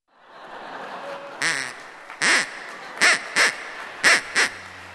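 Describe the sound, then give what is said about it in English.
A stand-in duck quacks six times in short, nasal bursts, the first few spaced apart and the last ones coming closer together, loud against a steady murmur of room noise. “So I'm sorry, there's no Ig duck tonight, but instead, I have a nice stand-in.”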